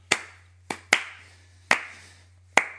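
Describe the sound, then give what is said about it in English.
Five slow, unevenly spaced sarcastic hand claps from two people clapping together, sharp and fairly loud, in an unenthusiastic rhythm with no talking, over a faint steady low hum. “I'm clapping myself there. But you were joining in with the sarcastic clap.”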